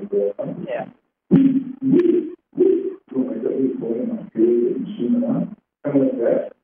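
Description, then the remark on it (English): A voice mimics an owl, making a run of low, breathy hoots in short uneven bursts with brief pauses between them, fairly loud and with a word or two spoken. “We know a lot of the owls around and the different kind of owls and the sunlight.”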